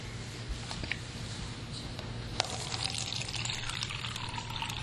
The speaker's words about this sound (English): These are the loudest jugs for pouring water. Are they? Maybe it's just the microphone.